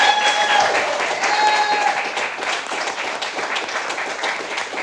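A crowd breaks into sustained applause, a dense wash of many hands clapping that stays loud and steady throughout, with faint voices and a few cheers mixed in.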